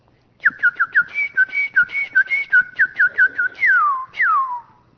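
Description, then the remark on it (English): A person whistles an imitation of a cardinal's call: a quick run of about a dozen bright, clipped notes, followed by two longer, loud whistles that slide downward in pitch. “Then you get down a little bit, the crows, wah, wah, wah. They try, they can't do it. But see, then you get down towards like that cardinal.”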